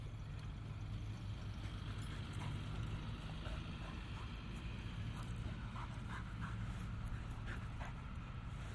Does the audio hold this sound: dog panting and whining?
yes